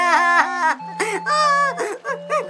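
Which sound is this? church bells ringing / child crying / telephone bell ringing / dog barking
child crying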